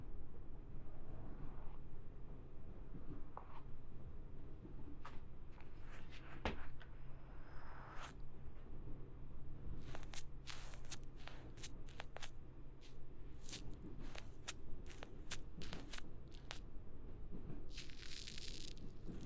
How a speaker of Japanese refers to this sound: シュワシュワって自然に泡が潰れていく音がいいんですよね。